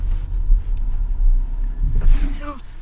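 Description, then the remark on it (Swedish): A steady, heavy low rumble of a car engine fills the interior during a driving lesson, with a learner driving for the very first time, continuous, with a brief voice rising over it near the end. “Det här är första gången som du kör bil.”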